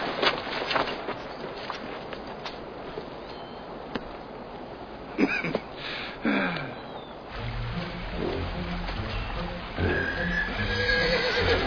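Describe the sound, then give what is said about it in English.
Six horses whinny loudly, with one sharp neigh rising above a busy outdoor scene, while hooves clop and shuffle and a low rumbling noise builds toward the end. “There's six horses there.”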